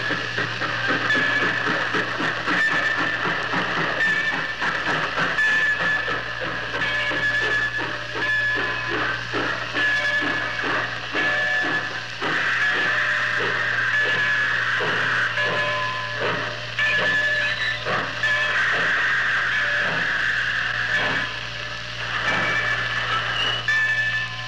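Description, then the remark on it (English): The old radio theme of the Gold Medal Fast Freight: a freight train rolls in with a steady, rhythmic chugging over a low constant rumble, a high sustained whistle-like tone running through it. No one speaks. “You have just heard the arrival of the gold medal fast freight.”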